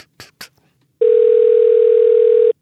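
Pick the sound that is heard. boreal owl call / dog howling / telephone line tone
telephone line tone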